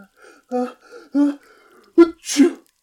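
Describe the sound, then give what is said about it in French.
A few short voiced catches build up, then a sharp intake leads into a single stifled sneeze in a room, a brief hissy burst held back and muffled at the end. “Un éternuement étouffé retentit dans la pièce.”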